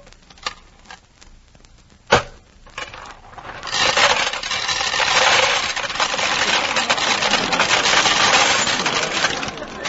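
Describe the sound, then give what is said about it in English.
Coins drop into a peanut vending machine: a couple of sharp metallic clinks, then a long, steady clattering rattle that stays loud to the end, with no talking. “Can I get at that peanut machine?”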